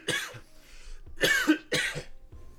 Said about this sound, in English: You can cough. It's all right. I can edit anything here.